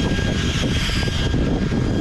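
A petrol leaf blower runs steadily in the dark as a man blows away leaves, a loud, unbroken engine roar with a rough low rumble and a thin high whine on top, holding the same level throughout with no one speaking.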